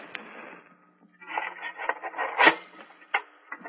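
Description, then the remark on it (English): A dark lantern being lit in an underground passage by a door, in a Sherlock Holmes story: a soft scrape, then a run of rough rubbing and rasping strokes peaking in a sharp scratch, followed by a couple of light clicks. No one speaks. “Just a moment till I light my dark lantern.”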